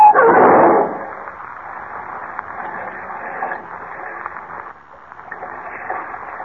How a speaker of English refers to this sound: Smashing through the iron guardrail, the car plunges to the swirling river below, with Kent and Jimmy trapped behind its closed doors.